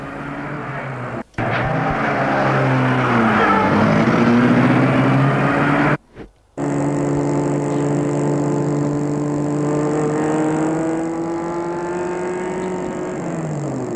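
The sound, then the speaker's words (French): Car engines rumble loudly and steadily, revving as waiting cars pull away with people leaving after classes on a Friday evening, with a couple of abrupt breaks in the sound and the motor noise easing slightly toward the end. “Les voitures les attendent et ils s'en vont.”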